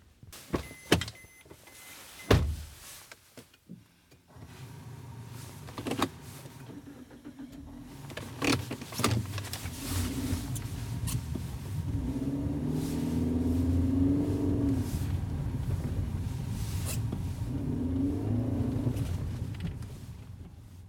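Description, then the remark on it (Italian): A few sharp clunks like car doors shutting as people get into a car, then an engine starts and revs steadily louder, rising in pitch as the car accelerates and pulls away quickly, heading toward a church. No one speaks. “In poche secondi scintani da ciò in l'auto e partono con grande sveltezza in direzione della chiesa da quest'uomo.”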